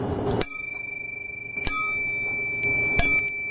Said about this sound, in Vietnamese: Quý vị đại chúng có nghe tiếng chuông này không? Bây giờ khi mà quý đại chúng nghe tiếng chuông mà tiếng chuông có âm thanh lên thì gọi là thanh trần động